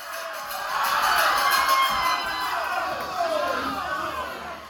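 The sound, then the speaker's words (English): A large hometown crowd at a dual moguls skiing event cheers and shouts in a steady, fairly loud roar that swells briefly early on and holds for several seconds, with no single voice standing out. “The hometown crowd wasn't sure either.”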